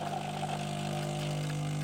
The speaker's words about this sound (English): I think I know what this is. What is it? Is it your little morning coffee routine? It is, the coffee machine.